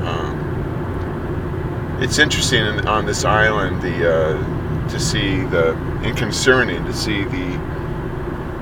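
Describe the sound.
A steady, heavy low rumble of a giant truck on the road behind a man's car as he drives 5 miles over the speed limit on his way to work. The rumble holds constant rather than swelling, and the man talks over it throughout.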